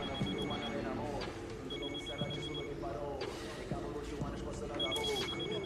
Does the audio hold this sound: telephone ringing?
yes